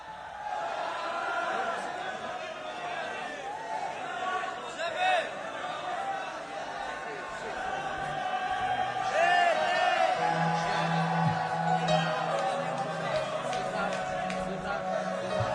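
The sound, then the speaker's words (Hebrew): A large crowd applauds and cheers steadily, a dense wash of clapping with whoops and excited voices rising over it, growing slightly louder toward the end. “עוד כפיים”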